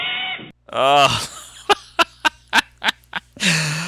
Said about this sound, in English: Well, that was the theme from a cartoon called Super Chicken. And I don't fucking really remember a whole lot about Super Chicken, but I always thought that the theme was funny.